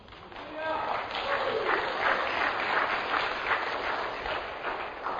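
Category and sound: crowd, applause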